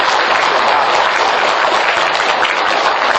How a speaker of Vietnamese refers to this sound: Cho nên quý vị cho thầy một tràng pháo tay để cổ vũ bác sĩ đó.